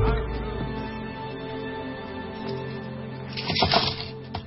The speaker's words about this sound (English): Whoa, careful. Don't let those coins roll away. No, they might disappear.